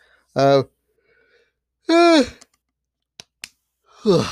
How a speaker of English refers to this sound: Just get that yawn out the way.